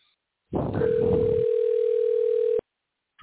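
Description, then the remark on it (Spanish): A phone line rings on a call placed live on air: one steady, mid-pitched ringback tone holds for about two seconds over a noisy line hiss, then cuts off abruptly. “Vamos a ver si está sonando el teléfono.”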